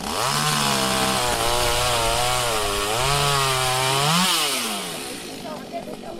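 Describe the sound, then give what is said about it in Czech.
Chainsaws run loud for several seconds cutting branches from an old pear tree, the engine whine rising and dipping as it bites into wood, then easing off slightly near the end. “No, jen se pod hrušní objevily motorové pily, tak se zvedá vítr.”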